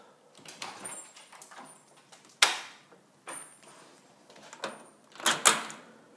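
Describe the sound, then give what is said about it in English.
A house door is unlatched and swung open as someone exits the house, with scraping and a sharp click, then shuts again behind them with a louder double clack of the latch; faint rattles and shuffling fill the gaps. “So let's exit the house.”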